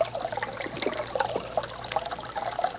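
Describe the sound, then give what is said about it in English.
A brook from which moonshiners take branch water for an illegal still flows steadily with a continuous bubbling, trickling babble, water splashing gently over stones, moderately loud with no voices. “This is the brook from which the moonshiners get their branch water.”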